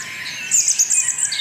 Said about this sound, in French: le bruit des oiseaux le matin, 6h du matin.